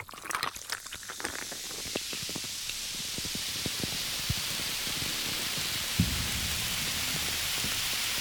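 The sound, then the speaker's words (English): A carbonated drink fizzes with a steady, bright hiss full of rapid tiny pops, busiest and most crackly at the start, with a couple of sharper clicks later. No voices. “So fizzy. This intro is really fizzy.”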